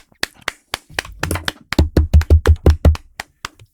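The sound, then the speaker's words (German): Knocking on a tabletop as applause: a scattering of light taps, then a steady run of about nine heavy, booming knocks with a deep, resonant thud, no voices. “Ich habe euch Tisch geklopft.”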